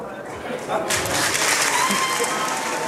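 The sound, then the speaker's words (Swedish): A group of climate activists shouts amid a loud crowd at the opening of party leader Magdalena Andersson's speech, with a burst of noise swelling after about a second into a sustained, clattering roar mixed with applause-like clapping and overlapping voices. “Vad var det de skrek för någonting? Ja, precis. Det var tydligen en grupp klimataktivister som vill att man ska beskatta det de kallar för de superrika”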